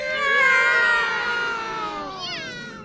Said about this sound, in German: Das lässt ein erschrecktes Miau hören.